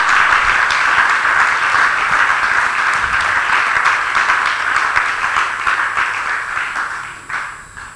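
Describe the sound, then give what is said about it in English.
A crowd applauds steadily, a dense wash of many hands clapping that holds strong before tapering off near the end. “Clap well. I want everybody to clap well.”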